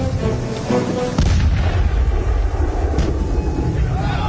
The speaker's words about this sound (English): Forward gun, fire. Missed. Reload.